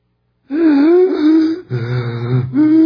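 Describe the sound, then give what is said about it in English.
A voice imitates the labored, wheezing breathing of a man dying of lung cancer in a nursing home, in long, strained, moaning rasps, three drawn-out breaths with a wavering pitch, loud and alone with no talk. “He was breathing like that.”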